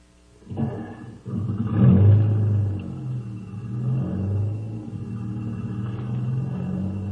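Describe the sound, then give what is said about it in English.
A jeep engine turns over and revs hard, then settles into a steady, deep rumble as it pulls away. Low, throaty roar with a couple of rising surges and no talking. “Get in the jeep. I'll have to step on it if we're going to catch that plane.”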